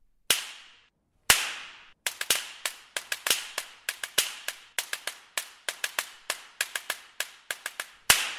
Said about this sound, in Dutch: Er zit overigens een heel apart instrument in deze symfonie, namelijk de zweep. En dat is niet gewoon een zweep, maar een slaginstrument dat klinkt als een zweep, zo.